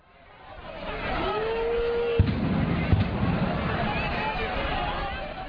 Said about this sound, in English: Thousands of anti-fascist protesters had come to demonstrate outside the court, and there were some clashes with police who responded with water cannon and tear gas.